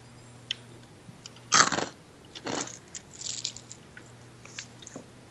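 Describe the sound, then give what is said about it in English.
Crunchy chewing of honey Cheerios cereal with almonds: a few loud, sharp crunches followed by softer, irregular munching bites, with no talking. “It was a satisfying chew.”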